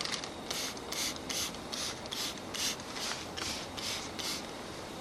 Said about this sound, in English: Freeze your head in this position. Freeze. I will spray above your head, okay? Raise your vibration.